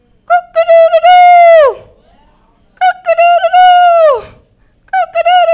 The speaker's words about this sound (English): And Jesus said again, before that rooster crows, you will deny me. And there it was.